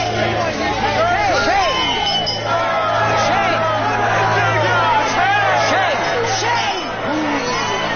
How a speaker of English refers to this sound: And he walks into this crowd of people in the street. Shame. Shame on you. Shame on you. And they all start shouting at him.